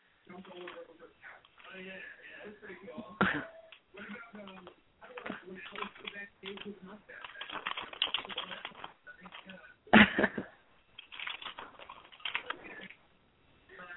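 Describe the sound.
Scattered keyboard typing clicks under ongoing conversation, with a couple of sharper, louder taps standing out amid the voices.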